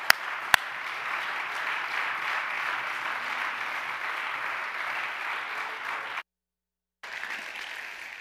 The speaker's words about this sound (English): Before you're seated, could you give the Lord a hand clap of praise in this place? He is so worthy.